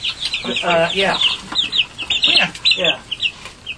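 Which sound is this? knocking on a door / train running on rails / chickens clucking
chickens clucking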